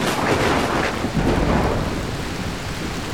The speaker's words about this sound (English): I'd never seen a storm like this. The rain drenched us as soon as we got out.